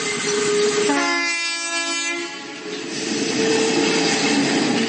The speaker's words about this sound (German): Da die elektrische Eisenbahn mit ihren 760 mm Spurweite und den blau- bzw. rot-weißen Wagen eher an eine Straßenbahn erinnert, wird sie von den Einheimischen auch so genannt, also Straßenbahn bzw. auf Slowakisch Električka.